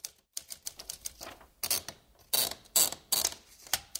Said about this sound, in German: Am nächsten Tag dann tauschten sie ihre Manuskripte aus, tippten sie in die Schreibmaschine und zwar jeder das Skript des anderen.